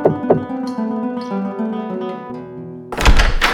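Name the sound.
knocking on a door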